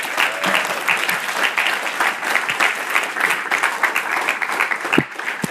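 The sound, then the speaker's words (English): An audience at Hope Chapel Huntington Beach's Sunday Celebration Service on May 29, 2016, claps steadily to welcome a guest evangelist. It is a dense, continuous wash of many hands applauding at even loudness for several seconds, with no voices standing out. “Well, we know where to direct the clap offering, don't we?”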